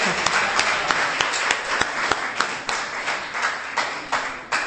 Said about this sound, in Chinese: 诸位弟兄，是不是给大家给每位母亲鼓掌？